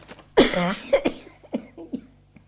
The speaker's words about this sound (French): Vous allez arriver, c'est moi qui tousse et qui ne pourra plus parler.